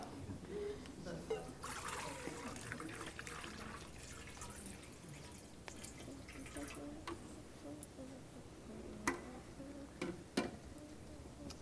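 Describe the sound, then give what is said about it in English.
Water from the Jordan River trickles steadily for several seconds during a baptism service, a soft continuous pour broken by a few sharper drips and splashes toward the end, at a low to moderate level. “Water from the Jordan River.”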